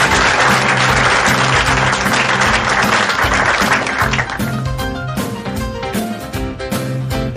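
Loud, dense audience applause fills the opening seconds, then music with a steady beat rises through it while the clapping continues more thinly underneath.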